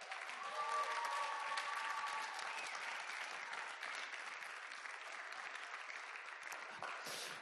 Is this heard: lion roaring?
no